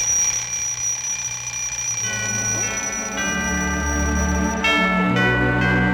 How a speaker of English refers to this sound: It's First Noel. Our old clock is getting in the Christmas mood for us.